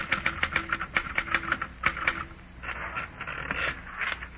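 Rapid typewriter keys clatter in a quick, uneven rhythm, fairly quiet, then give way to a softer, busier mechanical rustle toward the end. No voices.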